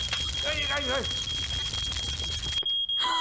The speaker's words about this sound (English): Dad, we can smell burning! And the smoke alarm's going off.